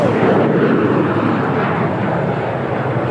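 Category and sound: vehicle, airplane roaring overhead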